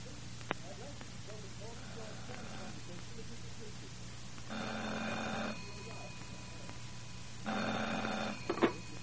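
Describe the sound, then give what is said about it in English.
An old-fashioned telephone rings twice at night, each buzzing trill lasting about a second with a pause between, moderately loud over a low steady hum and faint background murmur. “Then, just as I got nicely off to sleep one night, the phone rang.”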